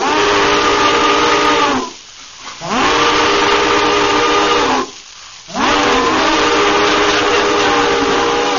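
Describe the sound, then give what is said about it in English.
A loud steam train whistle sounds three long blasts, each sliding slightly in pitch, separated by brief gaps filled with hissing steam. “That train of railroad cars snorting and sparking underground through the air.”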